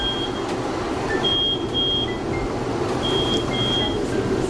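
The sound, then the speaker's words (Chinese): A steam oven timer beeps in short repeated pairs of high electronic tones, signalling that lamb chops have finished roasting, over a steady background hum with no talking. “那我们的这个声音是因为蒸烤箱刚刚已经烤好我们的羊排了，对，所以它会有那个计时器的声音。”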